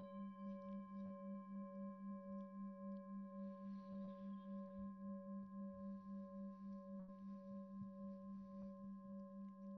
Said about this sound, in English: Noticing the sound of the bell moving through time.